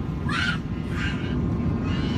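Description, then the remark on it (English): A young boy on an airplane, climbing over the seats, lets out two harsh, high-pitched yelling screeches, one after another, over a steady low droning rumble of cabin noise; a fainter cry trails at the end. “He's climbing all over the chairs. He's yelling.”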